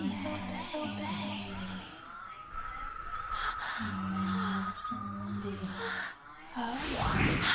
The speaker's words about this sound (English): Every time I say the word obey, you'll feel me breathing on your cock just like that. You teasing your cock as though I'm blowing on it.